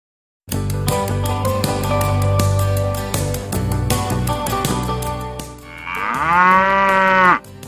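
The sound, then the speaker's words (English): A bright musical jingle plays for several seconds, then gives way to one long, loud, clear cow moo near the end. “Moo, moo. I am a cow, I am.”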